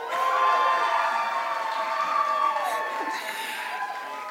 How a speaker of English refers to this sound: You really are just clapping for both sides. That's not how you do science, all right.